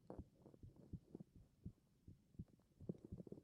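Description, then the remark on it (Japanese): A heartbeat heard through a stethoscope: muffled, low thumps repeating in a steady lub-dub rhythm over a faint hum, with no voices. “心音聞こえるじゃん。”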